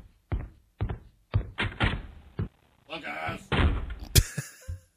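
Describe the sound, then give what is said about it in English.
A series of knocks and bumps builds to a sharp, loud door slam near the end, close by, with muffled voices talking in between. “So much closer to the mic this time. Is he? The door's a little bit closer.”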